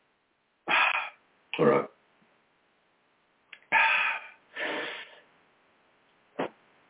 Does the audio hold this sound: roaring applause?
no